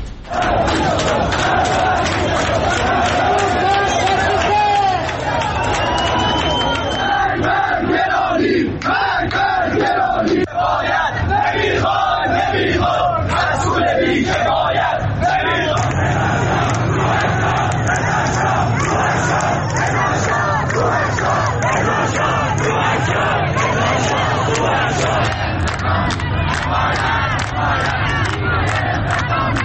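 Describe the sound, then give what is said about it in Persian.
A large protest crowd chants loudly in unison, many voices shouting a rhythmic slogan over a constant roar, during protests spreading to cities such as Shiraz, Mashhad, Ahvaz, Shahinshahr and Sari over economic and political grievances. “از شیراز تا مشهد، اهواز، شاهینشهر، ساری و دیگر شهرهایی که شهروندانش پیامهای روشنی برای حاکمیت داشتند.”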